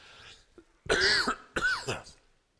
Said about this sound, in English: But the cough is breaking up. Stuff is happening, so I'm hoping it'll go away in the next couple of days.